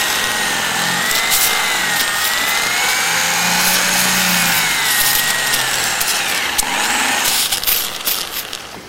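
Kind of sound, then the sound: tool, sawing wood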